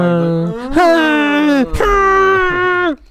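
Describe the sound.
A voice imitates someone's loud, drawn-out moaning, done deliberately louder each time, in a few sustained, wavering tones that swell and rise in pitch, breaking briefly between cries before trailing off.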